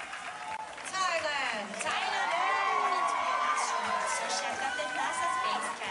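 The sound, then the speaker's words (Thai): A large crowd of Thai supporters cheers loudly at the Miss Universe pageant in the United States as Thailand's representative is announced, with high-pitched screams and shouts rising over a steady wash of applause, sustained, dense and energetic throughout. “ครับเช่นเดียวกับกองเชียร์ชาวไทยจากทั่วสารทิศทั้งที่เดินทางจากรัฐอื่นๆในสหรัฐและเดินทางไกลจากเมืองไทยก็เดินทางมาร่วมส่งเสียงเชียร์ทุกครั้งที่ได้ยินการประกาศชื่อตัวแทนจากประเทศไทยเพื่อรวมใจเป็นหนึ่งลุ้นเชียร์ให้สาวไทยคว้ามงกุฎ Miss Universe ได้สำเร็จ”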